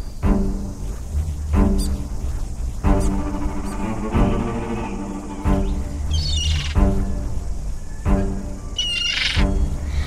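A gull squawks loudly and repeatedly, harsh cries coming in a steady series of bursts about a second apart, with no voices.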